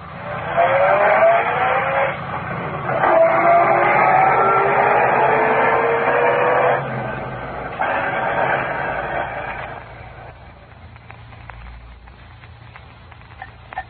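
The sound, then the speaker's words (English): A car drives off at a green traffic light and accelerates hard, its engine whining upward through a couple of loud surges with a hint of tire squeal, then fading away. “Go ahead, the light's green.”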